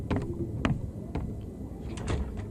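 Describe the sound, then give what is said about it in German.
A mechanical door into a workshop grinds open with a steady low rumble, punctuated by several sharp clicks and clunks spaced irregularly throughout. Moderately loud, with no voices. “Der Ausgang. Die Türe in die Werkstatt.”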